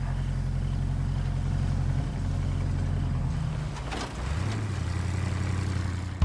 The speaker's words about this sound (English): The vehicle's headlights glow as it rolls out of the driveway.